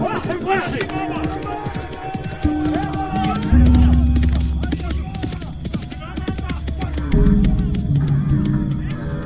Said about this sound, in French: Ils sont même en cheval! Mais c'est la cavalerie, ma parole!